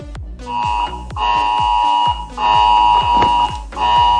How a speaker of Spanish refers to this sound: un día en el que también hemos conocido que el martes que viene a las 10 todos nuestros móviles van a sonar al unísono de esta manera.